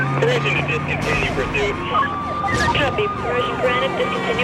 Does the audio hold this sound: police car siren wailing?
yes